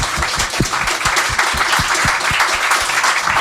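A crowd applauding with steady, dense clapping, loud and close, a rapid patter of many hands continuing throughout without talking.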